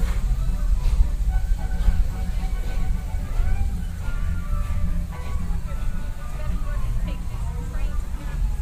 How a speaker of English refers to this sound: Oh, there goes the train,